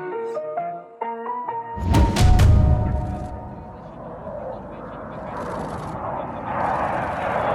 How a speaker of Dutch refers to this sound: Ja, je hoort hier het geluid van 5 door Nederland geleverde F-16 straaljagers op de Borcea luchtmachtbasis in Roemenië. En dit is de eerste dag voor Oekraïense piloten. Die kunnen dan wennen aan het toestel.